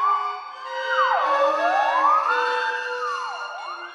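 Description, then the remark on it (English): A theremin glides smoothly up and down in long, wailing sweeps, imitating an alarm siren, over a steady sustained orchestral chord, in the third movement, 'Flugelhorn', of the orchestral work Sirens. It is continuous and fairly loud, with no voices. “The third movement is called Flugelhorn, and it addresses the alarm definition of siren. It's comical. The theremin glissando is all over the place, and in the middle, the orchestra itself becomes a theremin.”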